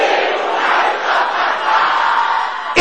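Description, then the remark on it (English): An audience shouts prayers against evil marital patterns loudly and continuously, many voices overlapping in a dense, forceful roar that stays steady for a few seconds before cutting off abruptly. “Can I hear you shouting this mercilessly and violently?”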